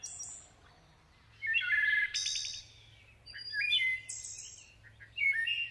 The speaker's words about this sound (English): But it's the wood thrush. They have the most beautiful song on this planet.